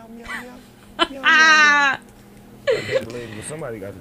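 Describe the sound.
A rapper imitates a cat's meow in a song: one long, loud, wavering meow, then a shorter one, over a low, steady musical backing.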